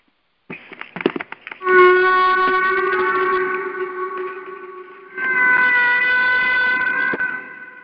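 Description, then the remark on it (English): Whale song: a burst of rapid clicking pulses gives way to two long, steady, moaning calls, loud and rich in harmonics, each held for several seconds with a brief gap between them. “So sit back and relax and listen to the whales directly speak to you, and then I'll come back and we'll continue.”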